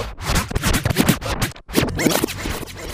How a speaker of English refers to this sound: And those two big wheels, they're kind of like mock turntables. You use those to like scratch.